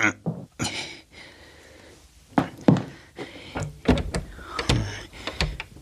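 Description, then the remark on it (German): A door, apparently to a darkroom, is opened with a series of clunks, rattles and scraping, the handle and frame knocking sharply several times, with a low mechanical whir in between. “Hinter dieser Tür hier?”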